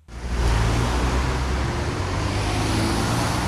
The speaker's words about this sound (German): Die Witzelstraße in Düsseldorf morgens gegen 7:30. Tausende Autos fahren an Werktagen hier von der A46 im Süden in Richtung Innenstadt.